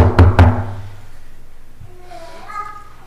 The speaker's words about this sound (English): They had prayer, and soon after this prayer, there was a knock on the door.